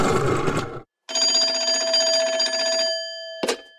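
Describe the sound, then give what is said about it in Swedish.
A telephone rings in two bursts separated by a short pause as the Swedish football radio show Fotbollsmorgon calls a guest by phone, the trilling bell tone loud, followed by a brief click at the end with no talking. “vi ska faktiskt ringa upp en ytterligare en gäst”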